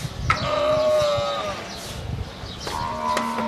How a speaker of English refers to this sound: Guess what animal? Sheep with a head cold? Answer, camel. 4,000 of them in a state-of-the-art dairy in the desert outside the city of Dubai.